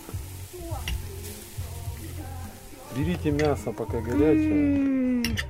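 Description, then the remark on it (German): Meat turning dark and added mushrooms sizzle on a grill with a steady crackle and hiss, while voices chatter over it, growing louder toward the end. “Das Fleisch färbt sich dunkel. … legt Pilze dazu.”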